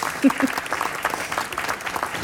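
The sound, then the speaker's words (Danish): A live audience at Bogforum claps steadily throughout, a dense patter of many hands at moderate loudness, with a couple of brief low voice-like sounds near the start. “Men hvis der er nogle publikumslyde, man kan høre derude ved højtalerne, eller i bilen, eller hvor man hører det her, så er det altså fra det publikum, der sidder og lytter.”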